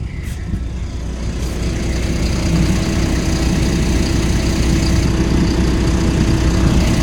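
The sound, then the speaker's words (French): A large school bus engine idles steadily at 7:30 in the morning as children approach to board, a deep continuous rumble with a low throbbing drone that holds even and loud throughout, with no voices. “Et donc voilà, le bus est là et les enfants vont se rapprocher du bus.”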